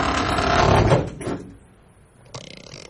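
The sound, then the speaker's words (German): A wardrobe door swings shut with a loud, rumbling wooden thud and a brief knock, then everything falls to a low, quiet hum. “Ich setze mich in den Schrank. Sind Sie verrückt? Machen Sie die Tür zu. Was? Tür zu.”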